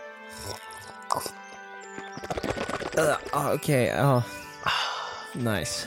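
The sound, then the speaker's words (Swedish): A few short, noisy slurps of coffee in the morning give way to loud, warbling voiced sounds that rise and fall in pitch, exaggerated vocal noises made while slurping. “Den här podden handlar om att vi sitter och slurprar lite kaffe så här på morgonkvisten.”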